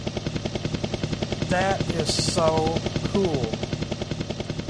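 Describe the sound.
A helicopter sound effect played on a keyboard, with steady, rapid rotor chopping running throughout at a fairly loud level, while a person briefly speaks over it in the middle.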